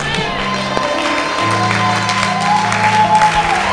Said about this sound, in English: I thought the whole church was clapping. I mean, clap like you are crazy. Clap like you have the victory.